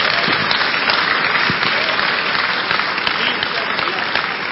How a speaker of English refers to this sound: Clap for Jesus.